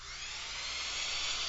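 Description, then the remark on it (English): A voice imitates a drill with a steady, high whirring hiss, held evenly and fairly loud for just over a second without a break. “Just stand up and make the drill go around and around, and I'll make some drilling kinds of noises.”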